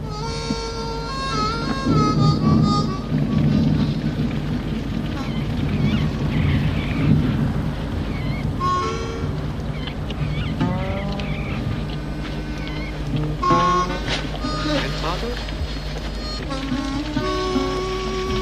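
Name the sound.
rain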